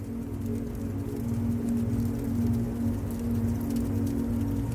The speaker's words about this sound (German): Du kannst die beruhigenden Klänge der Flammen hören und das angenehme Knistern des brennenden Holzes.